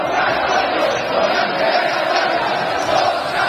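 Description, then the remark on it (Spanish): A large crowd roars and cheers continuously, a dense, loud wall of many voices shouting together with no pauses, celebrating bullfighter Morante de la Puebla crossing the Puerta Grande at Las Ventas in Madrid during the Beneficencia bullfight. “El de José Antonio Morante, Morante de la Puebla, que ayer desató la locura en Madrid después de cruzar la Puerta Grande en las ventas, en la corrida de la beneficencia,”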